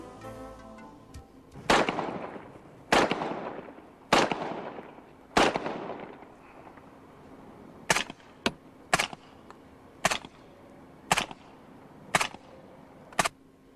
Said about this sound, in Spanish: Otro accesorio muy especial es el silenciador que monta de origen la versión SD, Empleando munición subsónica, el nivel sonoro de sus disparos se reduce a poco más del chasquido metálico producido por el cierre. Comprobemos la comparación.